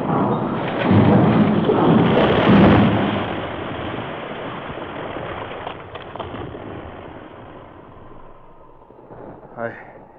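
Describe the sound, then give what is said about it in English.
A heavy, roaring rumble of an avalanche of hundreds of tons of snow and huge rocks descending toward Scar Canyon swells loudly for a few seconds, then slowly fades into a long, dwindling roar over about ten seconds. “Hundreds of tons of snow gathered speed as it descended toward the rocks that sheltered Scar Canyon.”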